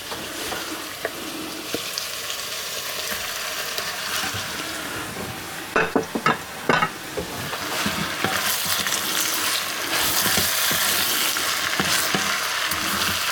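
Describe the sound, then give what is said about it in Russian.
Steady loud sizzling of fried onion and half-cooked carrots in a pan, broken around the middle by a few sharp clanks and scrapes as meat is added and stirred, then the hiss swells stronger. “Морковь уже полуготовая. Добавляем мясо.”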